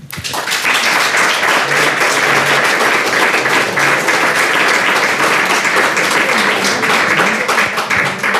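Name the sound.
audience applause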